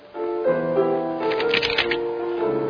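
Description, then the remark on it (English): A crisp riffle shuffle of a deck of playing cards during a card trick, a rapid fluttering burst lasting about a second, heard over a steady tonal musical background with no one speaking. “What this deck needs right now is a good shuffle.”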